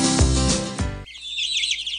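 Baby chicks peeping in a busy chorus of rapid, high-pitched chirps that fill the second half, right after a loud, full-bodied burst of sound cuts off.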